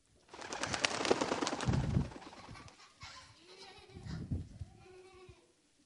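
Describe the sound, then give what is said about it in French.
A burst of rustling wing flaps for a couple of seconds as a dove is released, followed by a few soft, low dove coos in separate phrases. “Venez les enfants, nous allons lâcher la colombe, puisque le corbeau ne veut pas jouer.”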